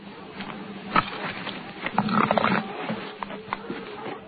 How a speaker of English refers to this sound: You hear that? Well, you remember how them dogs do when they come through here, so you can tell me about it someday, okay?